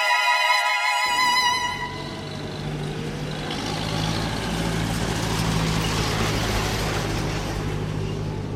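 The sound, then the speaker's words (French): Giant trucks loaded with stones rumble past with a deep, steady engine drone under a broad roar of gusting cold wind and rolling ochre dust, opening with a brief high tonal hiss like an air brake releasing. Norte Chico region, Atacama Desert, Chile, 800 km north of Santiago. “Des rafales de vent froid, des rouleaux de poussière ocre et un balai incessant de camions géants chargés de pierres.”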